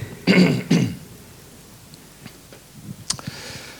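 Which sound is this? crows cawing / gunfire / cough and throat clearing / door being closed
cough and throat clearing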